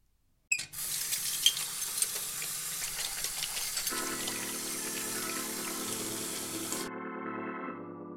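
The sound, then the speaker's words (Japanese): A tap runs steadily with a hissing rush of water and a few light clinks, as if dishes are being rinsed; the water cuts off near the end, leaving a faint tonal hum. “皿洗いをしながらラジオが聞ける。”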